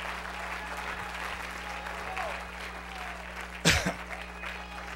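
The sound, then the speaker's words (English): An audience claps together in praise of God in a steady, dense wash of applause, with a brief louder burst partway through and faint voices underneath. “Let's clap our hands into him and bless his name.”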